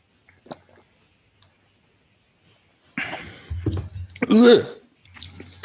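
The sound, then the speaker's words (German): Sipping and slurping beer from a glass after a near-silent start, with a few soft clicks, wet mouth noises and a short voiced exhale or murmur. “Aber trinken wir mal, wa?”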